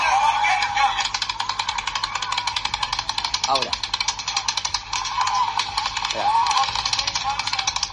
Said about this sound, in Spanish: Se escucha una persona que dice: "A lot of fake gunshots", dice una persona que está ahí en el público. Escuchalo, porque están los tiros de fondo, pero escuchá.